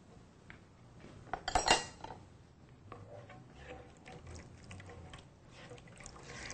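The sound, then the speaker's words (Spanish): A utensil clinks sharply against a pot a few times, then steady scraping and sloshing follow as a little water is added and stirred into a Caribbean sauce thickened with tapioca, moderately quiet, with no voices. “Un poquitito de agua. Vamos a agregarlo a la salsa.”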